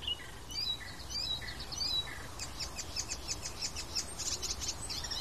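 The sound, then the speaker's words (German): Two bird species, several individuals, sing at once: one bird repeats short, clear whistled phrases while another sings rapid, high, buzzy trills, over a steady low wind rumble. “Vielleicht ist das ein bisschen überwältigend für eure Ohren, die mäßige Qualität des Mikrofons plus den Wind plus meine Stimme und dann 2 Vögel gleichzeitig. Also 2 Arten gleichzeitig, mehrere Individuen gleichzeitig.”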